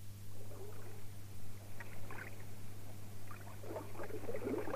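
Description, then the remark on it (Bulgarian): A boat speeds toward the listener across the water, a steady low drone running beneath splashing and churning water, constant throughout, with no voices. “Към нас лети лодка.”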